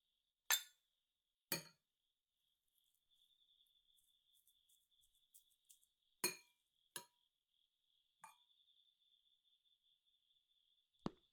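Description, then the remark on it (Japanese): Glasses clink together in a renewed toast before a meal of fried rice and grilled fried tofu, a handful of sharp, bright taps spaced irregularly, with a faint steady cricket-like chirring humming underneath and no one speaking. “んじゃ改めて乾杯&いただきまーす。”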